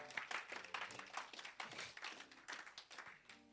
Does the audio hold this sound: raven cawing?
no